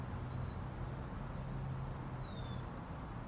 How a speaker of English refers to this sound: What kind of bird is that? Anybody know what kind of bird that is?